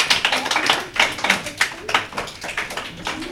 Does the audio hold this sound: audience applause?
yes